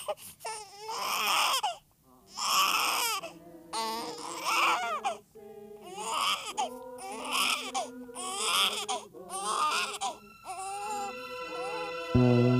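A newborn baby boy, just born, cries in a series of loud, rhythmic wails, each burst separated by short gasping breaths, the high-pitched cries repeating steadily, ending as a tonal music note enters.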